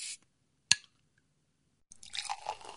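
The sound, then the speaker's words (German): A short sharp click, a brief silence, then mineral water pours into a glass, splashing and fizzing with a bubbly, crackling texture that keeps going to the end. “Kann ich Ihnen ein Glas Wasser anbieten?”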